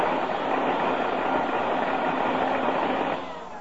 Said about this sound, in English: I fixed your vacuum cleaner for you. Oh, happy day. Yeah, it's right here. Plug it in. Gladly. Oh, it was in horrible shape.